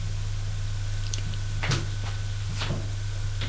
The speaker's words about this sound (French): On entend une porte qui claque.